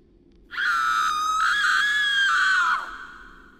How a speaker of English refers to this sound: we were all woken up by a loud scream coming from the next room.